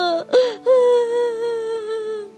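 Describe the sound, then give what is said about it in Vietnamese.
A child whimpers and sobs up close, with a couple of short, catching breaths at the start, then a long, wavering, tearful moan that slowly trails off. “Con Tuấn gấp vào 2 hàng nước mắt và tiếng thúc thích.”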